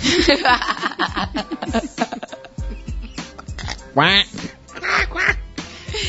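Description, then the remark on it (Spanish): A duck quacks repeatedly in quick, raspy, loud bursts, with a longer drawn-out call near the end; no clear talking over it. “Ese, así sonaba el pato, ¿no?”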